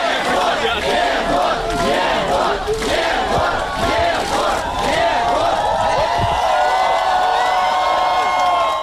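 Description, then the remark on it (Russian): A large crowd cheers and shouts in a sustained roar outside a courthouse, giving an ovation to Zhukov as he leaves court after a three-year suspended sentence, with voices rising and overlapping in loud ovation, whoops and rallying cries for the whole stretch without letting up. “На выходе из суда ему устроили настоящую овацию.”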